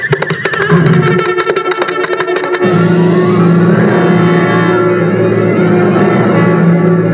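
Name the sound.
horse neighing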